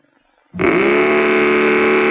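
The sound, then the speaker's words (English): After a brief silence, a Mattel Baroom hot rod toy engine fitted on a child's tricycle suddenly bursts into a loud, buzzy, car-like roar that holds steady until the end, with no talking. “Well, you can make it roar with Mattel's terrific new Baroom hot rudder engine.”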